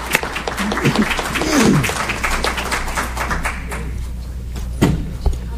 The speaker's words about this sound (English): hope you'll join me in giving Mike a round of applause